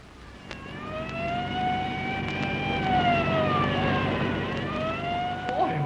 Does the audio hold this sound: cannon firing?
no